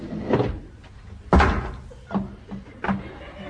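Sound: door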